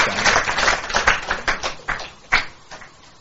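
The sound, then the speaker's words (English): Scattered clapping from a small audience, a quick run of sharp crisp claps that thins out and fades after a few seconds, with no voices. “You should also applaud for”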